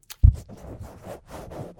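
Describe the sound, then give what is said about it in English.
A voice imitates a cloth being pulled over a terrorist's head: a low thump, then a breathy, scratchy rustling that swells and fades in several soft waves for over a second. “Okay, so this is a cloth going over a terrorist's head.”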